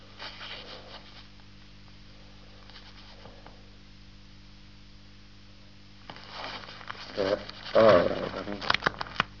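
Small yellow sheets of paper are shuffled and rustled as someone searches through them, quiet at first, then growing into louder crinkling bursts near the end, over a steady low electrical hum.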